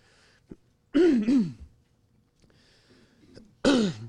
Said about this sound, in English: I'm making you clear your throat now.